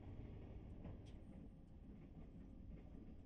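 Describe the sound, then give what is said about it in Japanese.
Steady low rumble inside a train carrying few passengers, a continuous muffled drone with faint rattles and clicks, fairly quiet and even throughout, with no voices. “ひなたちの他にこの電車あんまりお客さん乗ってないんじゃない？”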